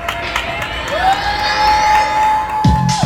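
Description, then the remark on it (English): New York City neighbors cheer and whoop from their windows at 7 p.m. to thank essential workers, voices echoing between buildings, with a rising whistle or horn tone sweeping through and scattered shouts near the end. “And many of us look forward to 7 p.m., when neighbors across the city and around the world would begin cheering outside of their windows, thanking the essential workers who kept our society running.”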